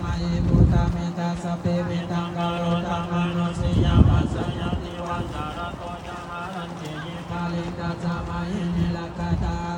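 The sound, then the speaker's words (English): Outdoor wind gusts rumble across the microphone in a couple of low bursts, beneath steady, droning blessing chants recited by a row of seated monks that carry on throughout, at a Lao New Year celebration at Wat Lao Mixayaram temple as colorful flags are placed into sand stupas. “We celebrate Lao New Year at Wat Lao Mixayaram, bathing a statue of the baby Buddha inside the temple before heading to the windy outdoors to place colorful flags into sand stupas while a row of seated monks recites blessing chants.”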